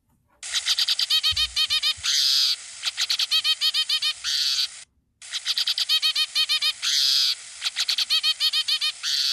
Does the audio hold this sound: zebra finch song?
yes